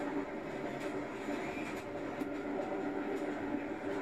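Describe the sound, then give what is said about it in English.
A steady, continuous rumble and rattle of a moving train, heard from inside a carriage, with faint periodic clicks over a constant low roar and no voices. “Check out the rest of the train.”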